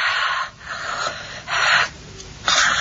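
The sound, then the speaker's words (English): Heavy, rhythmic breathing of a woman, with loud rasping breaths alternating with softer ones roughly every half second to second, steady and labored, no talking. “This is where her breathing gets heavier.”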